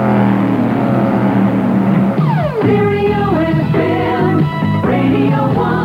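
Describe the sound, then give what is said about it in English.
A loud racing car engine screams past from left to right and then right to left in stereo, its whining pitch dropping sharply as it sweeps across, followed by more high revving and gear changes, with no voices. “they seem to have highlighted the use of stereo because the racing car goes from left to right and then right to left.”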